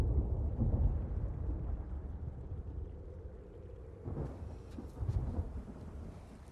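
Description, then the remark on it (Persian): Steady rain falls over a deep, rolling rumble of thunder at an abandoned building with no roof, with a brief burst of heavier spattering and crackle near the end. No one speaks. “بارون میباره.”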